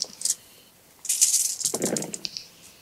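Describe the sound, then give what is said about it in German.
A handful of many dice, held in a person's hands, clatter and rattle together: a brief shake followed by a longer burst of clicking and tumbling, fairly loud with no voices. “Meine Hände sind zu klein für die vielen Würfel.”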